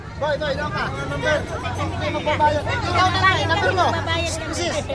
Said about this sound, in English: Outside a government warehouse in Manila, a security guard struggles to keep an impatient crowd under control. They've been waiting for hours in the sun for a chance to buy what's normally a commonplace commodity, rice.